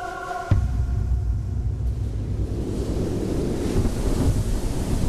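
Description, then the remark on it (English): After a brief tonal note, a storm sets in on an island: a loud, steady gale from the north roars over heavy crashing surf, a thick continuous rumble with no voices. “By the second day, however, a stiff gale rose from the north, chilling us to the marrow, and with it followed the blackest squall line I did ever see.”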